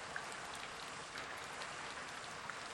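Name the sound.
rain falling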